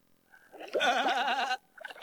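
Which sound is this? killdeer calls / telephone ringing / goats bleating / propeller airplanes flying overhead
goats bleating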